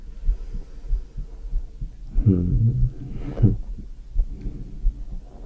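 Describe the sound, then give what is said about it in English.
A muffled heartbeat, heard through a stethoscope microphone on a person's own shaved chest, thumps steadily at a slow, even pace, each low beat soft and rounded, with a brief brushing rustle in the middle and no voices. “I'm kind of nervous because I'm listening to my heartbeat and just seeing myself react and just stroking very slowly.”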